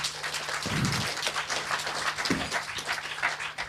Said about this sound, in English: So maybe a warm round of applause for yourselves for setting up camp and sticking it out in this tent while it's very, very warm today. So round of applause.